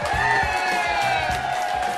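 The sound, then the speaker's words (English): A crowd at Pinstripes in Oak Brook cheers and whoops together during a live WGN Radio Hometown Voices Tour broadcast, a loud, sustained roar of many voices, with a few higher yells standing out over the steady wash of noise. “Everybody cheer and go, yeah!”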